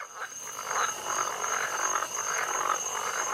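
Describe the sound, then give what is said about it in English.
A dense chorus of frogs croaks continuously in the swamps of Florida on a sunny day, many overlapping calls pulsing together, with a thin, steady high-pitched whine running underneath. No one speaks. “The sun shining, birds are tweeting, frogs croaking.”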